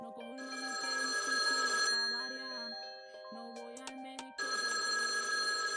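A telephone bell rings loudly and close in two long jangling bursts separated by a short pause, with a steady tonal hum continuing underneath.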